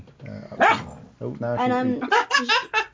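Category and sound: animal, dog barking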